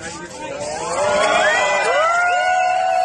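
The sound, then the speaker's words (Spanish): A crowd at a competition podium ceremony cheers and applauds a marriage proposal in a loud, sustained ovation, with high rising whoops and shouts streaking over the steady roar of many voices. “Esa ovación tenía un sentido.”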